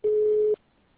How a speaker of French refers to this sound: Vous pouvez enregistrer votre message après la tonalité. Lorsque vous avez terminé, vous pouvez raccrocher ou rester en ligne pour accéder à d'autres options.